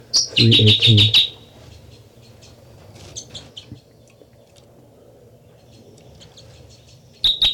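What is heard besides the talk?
bird song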